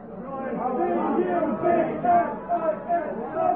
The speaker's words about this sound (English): Dublin, hear that? That's the Dublin crowd trying to outshout the Cork crowd that are singing